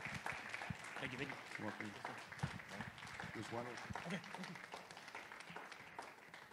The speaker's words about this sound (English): Give the Lord a clap offering, church, this morning. Amen.